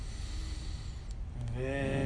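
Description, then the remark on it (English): A slow, deep breath drawn in through the nose, soft and airy, taken during a guided chanting practice with attention on the forehead, followed by a voice chanting "Vinishma". “Forehead, breathing in with Vinishma.”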